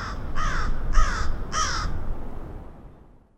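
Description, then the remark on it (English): Three harsh, raspy caws from crows in Chicago ring out in an even rhythm, fairly loud, over a low outdoor rumble that fades away after the last call. “Chicago's crows were hit by a deadly virus, and it's one that humans are susceptible to as well.”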